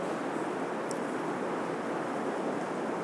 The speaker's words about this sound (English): Man, listen to that rain.